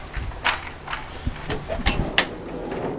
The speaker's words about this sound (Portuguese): Vamos abrir esta porta.